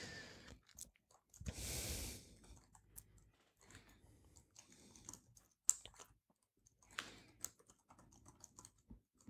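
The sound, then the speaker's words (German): A computer mouse clicks repeatedly in uneven bursts as someone clicks through pictures of rooms, sharp little taps scattered through the quiet, with a brief louder rustling noise early on and no one speaking. “Ich klicke nochmal hier okay, dann haben Sie unsere nicht Räume im Detail.”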